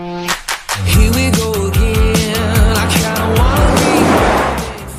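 A fuel-hungry four-wheel-drive van drives along the road, its engine loud, humming steadily while the pitch rises and shifts in steps as it accelerates, with road noise underneath and no talking.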